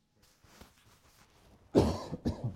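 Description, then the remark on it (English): Someone coughs and clears their throat, a quiet rasp first, then two loud, harsh bursts of coughing near the end, with no talking; the person is choking after taking a drink of water. “Excuse me, I took a drink of water to try to keep from coughing. Now I'm choking because of that.”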